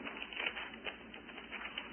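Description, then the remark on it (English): Many pages of Bibles rustle and flip at once as an audience turns to Luke chapter 1, a soft, continuous papery patter with small crisp flicks scattered throughout, fairly quiet, with no voices. “There's real sweet music, and I like to hear you rustling among the leaves.”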